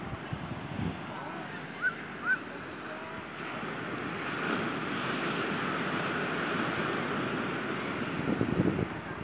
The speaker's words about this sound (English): Can you hear the ocean?